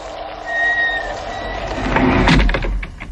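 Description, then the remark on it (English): A door in a house slides shut with a high, whining creak, followed by a heavy, rattling thud as it closes and cannot be opened again. It is fairly loud, with no voices. “The door closed.”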